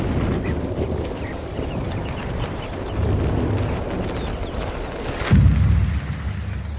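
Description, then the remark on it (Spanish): Thunder of an electrical storm rolls and rumbles steadily through a noisy storm backdrop, swelling around the midpoint, then a sharper, louder clap booms near the end before settling back into a low grumble. “Tormenta eléctrica.”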